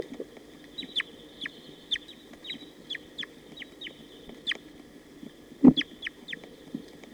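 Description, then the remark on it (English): Wild crossbills call in a quick, irregular series of short, high, downward-sliding chirps, about a dozen in all, over a steady low rumble, with one louder low thump near the end, during a playback recording session by a net area. “There are some wild birds here.”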